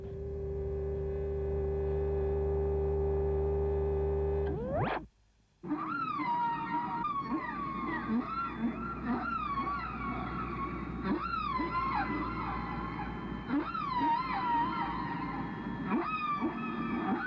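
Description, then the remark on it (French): A low sustained drone cuts off with a brief burst and pause, then whale song takes over: repeated moaning calls sweeping up and down in pitch, layered and echoing, with no talking. “on va écouter un petit extrait de Chris Marker, La baleine. Vive la baleine.”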